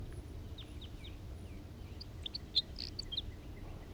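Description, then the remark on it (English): A male crossbill sings a series of short, high chirps and whistled notes, spaced irregularly over a steady low rumble of background noise. “There's that male singing.”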